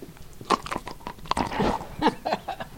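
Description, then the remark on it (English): A happy, retired dog crunches and chews on a treat he is given while visiting with museum visitors, with irregular sharp bites and wet mouth sounds over about three seconds, no talking. “And then there is the sound of a happy, retired dog receiving a treat as he visits with museum visitors.”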